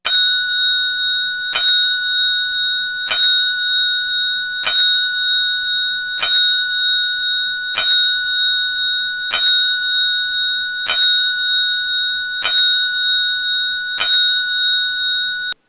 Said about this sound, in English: Mike Williams is the first person that I know of to get the 10-bell salute twice